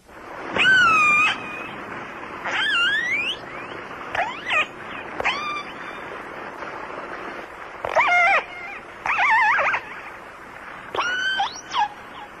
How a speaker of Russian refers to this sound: А вот услышанный подводным микрофоном голос кита-касатки.